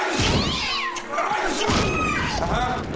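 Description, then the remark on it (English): A cat yowls and meows repeatedly in drawn-out, wavering cries, loud, with faint rustling and thumps underneath. “Do you have a cat?”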